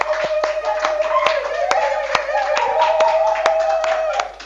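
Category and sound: crowd, audience applauding in welcome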